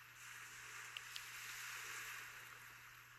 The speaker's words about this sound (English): The beach is wide and long. Listen to the waves crashing to the shore.